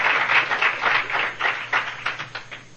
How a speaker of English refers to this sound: If the new people are wondering why there's applause and why we even say that, how long we've been sober, it's Alcoholics Anonymous' track record.